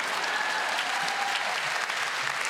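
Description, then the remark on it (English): A steady wash of audience applause for a city council candidate, many hands clapping at once in a dense, even roar that holds at full strength throughout without voices standing out. “Big round of applause”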